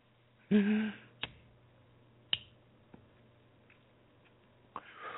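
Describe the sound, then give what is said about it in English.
A lighter flicked several times to light a joint of Pineapple Express cannabis: a brief scratchy burst followed by a few sharp clicks spaced unevenly over several seconds, with no one speaking. “I'm going to light this joint up now here”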